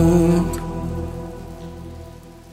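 Steady rain falls in a continuous, even patter, fairly close and moderately loud. A brief tonal hum sits under it at the start, then the rain carries on alone, softening slightly.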